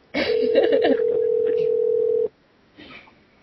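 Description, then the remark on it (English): A single steady ringback tone plays through a phone for about two seconds while the call waits for an answer. Brief voices overlap its start, and a short murmur follows after it stops. “Should I just hang up? Yeah, these fuckers aren't going to answer.”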